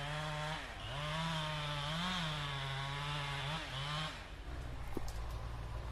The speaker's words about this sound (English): Once we leave the truck, we walk another half mile or so to the timbering site. In the distance, we see a chainsaw operator cutting an 80-foot tree.